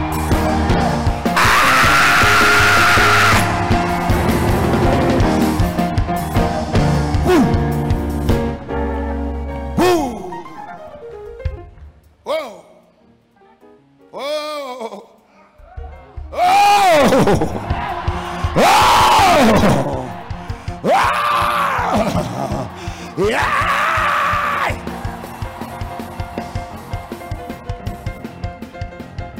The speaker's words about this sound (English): Come on, scream like your voice is yours and pray.